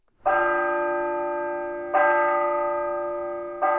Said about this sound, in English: At 10 past 5, the bell tower at the College of St. Scholastica in Duluth calls 70 Benedictine nuns to prayer,